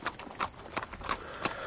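Horse hooves clip-clop at a steady walking pace as someone brings a horse back, about five or six sharp strikes in quick succession, moderately loud, with a faint steady hiss behind them.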